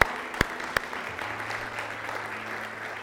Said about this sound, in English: So let's give the Lord a big round of applause.